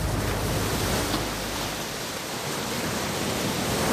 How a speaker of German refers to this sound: Ja, da hören Sie es, das Meer.